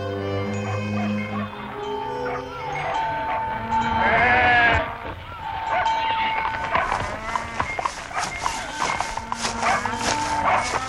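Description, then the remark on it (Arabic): A shepherd's flock of sheep bleats repeatedly, several overlapping wavering calls, with a steady outdoor background and a few sharper sounds toward the end. “ثم بعث رسول الله إلى راعي غنم يطلب منه أن يزوده بشيء من اللبن.”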